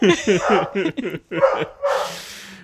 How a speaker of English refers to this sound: This is where I insert Laurel's dogs barking again because they're concerned about felonies.